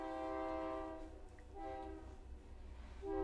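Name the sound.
passing train with horn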